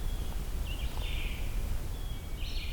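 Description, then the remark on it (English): An ovenbird, a kind of warbler, sings two bright, high phrases a second or so apart over a steady low outdoor rumble, with no wind and no voices. “Here we go, an oven bird. It's another kind of warbler, named after the oven-shaped nests they make on the ground.”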